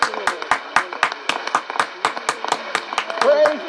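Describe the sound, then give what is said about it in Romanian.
A church audience claps together in a steady, quick rhythm during a worship song praising God, sharp, with voices calling out beneath the clapping and growing louder near the end. “Hai să-l aplaudăm mult!”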